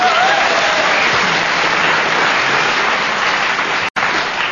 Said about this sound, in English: No comedy, but a round of applause, not bad.